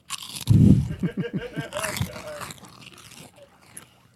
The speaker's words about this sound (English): I know that it's going to be funnier at home because we're crunching in the into microphones. Into the mic.